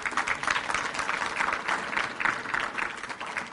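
Steady applause from an audience, a dense rush of many hands clapping at an even, sustained level for a few seconds with no voices standing out.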